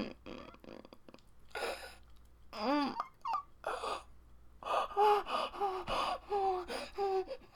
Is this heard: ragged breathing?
yes